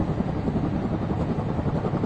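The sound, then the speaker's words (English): A helicopter roars close overhead at about 9 o'clock at night, its dense low rotor thrum steady and loud throughout, with no voices over it. “The chopper's very close this time.”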